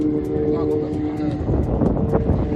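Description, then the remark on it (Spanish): Rescue motorboats search the Potomac River in winter for survivors after a plane and a helicopter collided. Their engines drone steadily, a low continuous hum with a tonal whine that roughens into louder, choppier engine and wind noise toward the end. “Varias lanchas buscan posibles supervivientes.”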